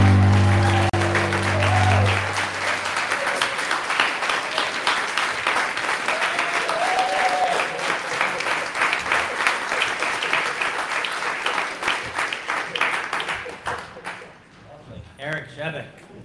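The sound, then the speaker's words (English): Loud, sustained applause from an audience, dense clapping that starts over the tail of a sung note and keeps going before thinning out into scattered claps near the end. “You guys are applauding on the note now.”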